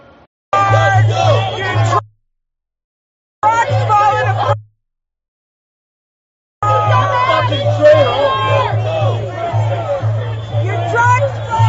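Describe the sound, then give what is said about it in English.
A large crowd shouts and cheers loudly, as at a protest, in three bursts: two short ones split by silence, then a longer sustained roar of overlapping voices over a low steady hum. “Imagine there's so much estrogen in that crowd.”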